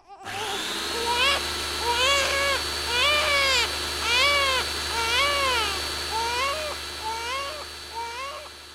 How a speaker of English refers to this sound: And now, cue power drill and newborn baby.